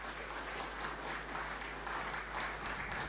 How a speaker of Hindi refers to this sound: एक बार फिर से जोरदार तालियां।